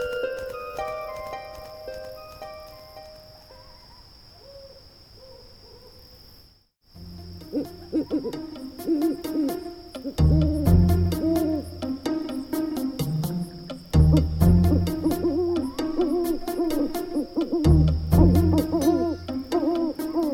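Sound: owl hooting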